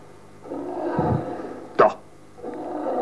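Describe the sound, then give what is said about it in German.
A lion coming out of the jungle roars in a low, drawn-out growl, cut by a brief louder snarl midway before the rumbling growl returns. “Ein Löwe.”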